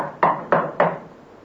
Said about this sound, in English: A week later, knock on the door.